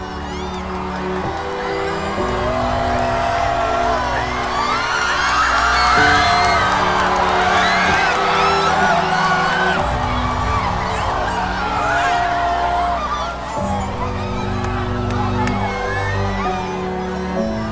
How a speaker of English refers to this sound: As the solar crescent disappeared behind the pitch-black lunar disk, the sky quickly transformed into peaceful shades of evening, and all anyone could do was cheer.